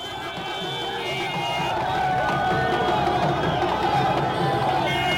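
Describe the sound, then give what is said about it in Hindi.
A dense crowd roars and chatters continuously at a by-election campaign rally in western Uttar Pradesh, India, for the Muzaffarnagar city and Deoband seats, with overlapping shouts and voices forming a steady loud din that swells slightly partway through. “ये भीड़ का उन्माद नहीं है बल्कि पश्चिमी उत्तर प्रदेश की दो सीटों पर हो रहे उपचुनाव के प्रचार का मूड है, जो किसी उन्माद से कम भी नहीं है।”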